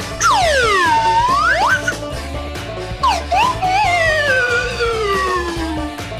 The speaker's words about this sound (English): That's how you play a slide whistle, right? That is very effective, very impressive.